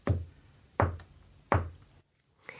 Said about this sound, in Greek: Ξαφνικά η πόρτα χτυπά τρεις φορές.